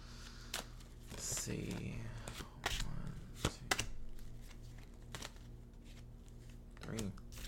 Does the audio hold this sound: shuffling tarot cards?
yes